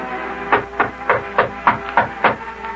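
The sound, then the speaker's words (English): A steady series of about seven or eight sharp knocks on the mayor's door, evenly spaced at a brisk, regular pace, over a faint constant hum with no talking. “Well, go ahead and knock there”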